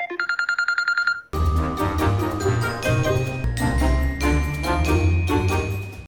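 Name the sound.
telephone dialing tones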